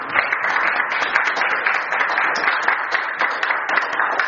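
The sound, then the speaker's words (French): A church audience applauds the Lord, a dense, continuous wash of many hands clapping at an even loudness throughout, with no voices standing out. “On applaudit le Seigneur.”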